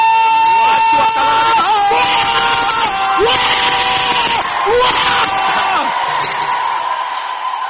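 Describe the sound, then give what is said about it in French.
A large audience shouts and cheers all at once, a loud, dense roar of many overlapping voices with whoops and yells, sustained for several seconds before easing slightly at the end. “Et quand vous terminez, vous allez crier.”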